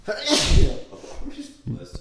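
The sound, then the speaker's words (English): A single sharp sneeze bursts out with a breathy explosive rush, followed by brief murmured speech afterward. “Bless you.”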